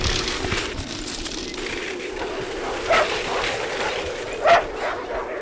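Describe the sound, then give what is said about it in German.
Sled dogs bark and yip in short bursts while pulling a fast-moving sled, over a steady whooshing, rushing background, with a couple of sharper barks standing out near the end. “Normalerweise würde ich die Hunde nicht schon am Anfang so antreiben.”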